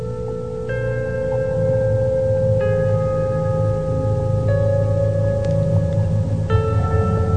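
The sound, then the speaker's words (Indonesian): A doorbell, pressed from outside at a button in the corner of the house, rings inside the house, an electronic chime sounding about four times at a steady pace, its clear sustained tones ringing over a constant low hum with no one talking. “Dan akhirnya Fahrul pun langsung mencet bel itu dan menekannya hingga terdengar suara dari dalam.”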